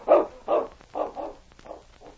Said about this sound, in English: The great dog whined helplessly. He knew only humans could help his master.